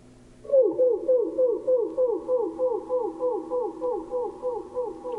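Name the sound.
wood thrush song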